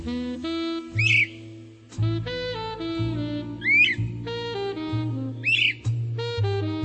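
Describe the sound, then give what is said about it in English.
Three short, sweeping flycatcher calls ring out about a second and a half apart, clear, over a steady bed of sustained musical tones. “It's good to know that my flycatchers and their chicks will be safe.”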